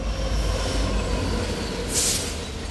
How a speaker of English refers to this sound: Long trains crossing dozens of intersections as they would weave through our city, feeding the town with nutrients for cereal production.